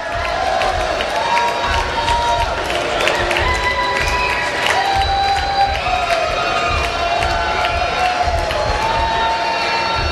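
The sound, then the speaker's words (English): A large concert crowd cheers and shouts continuously after midnight, a dense roar of many voices with whoops and whistles rising above it, calling for an encore as the performer walks away from the stage. “I don't think they're going to let them, even though the crowd wants more.”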